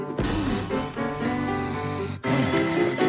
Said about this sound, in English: Tiana stops the alarm clock with her foot.